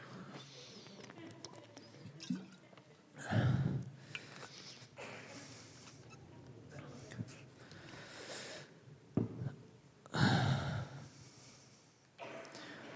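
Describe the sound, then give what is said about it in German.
Drinking sounds: a person takes a few short slurping sips of water and gulps, separated by pauses, with audible breaths through the nose in between and no talking. “Also für meine Stimme nehme ich jetzt einen Schluck Wasser und dann gehe ich in den Endspurt.”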